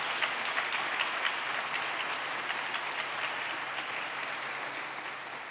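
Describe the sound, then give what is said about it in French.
An audience applauds a woman for giving a testimony, many hands clapping in a dense, even wash of sound that holds at a constant level for several seconds without any talking. “Voilà, je crois que vous pouvez applaudir Kant parce qu'elle nous a vraiment donné un témoignage important.”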